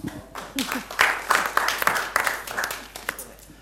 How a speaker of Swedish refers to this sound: Applåd!